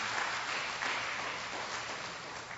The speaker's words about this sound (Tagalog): Palakpak nga po sa ating Panginoong Diyos na makapangyarihan sa lahat.